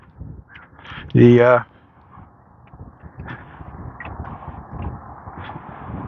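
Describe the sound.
A crow gives a single loud, harsh caw in the morning, lasting under half a second, while muffled talking and low background noise continue before and after.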